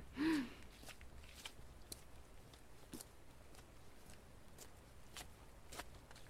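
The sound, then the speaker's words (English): Soft, faint footsteps tap along a path at an uneven pace, each step a light crunch against a quiet background, after a brief breathy vocal sound at the very start. “I think I hear your footsteps.”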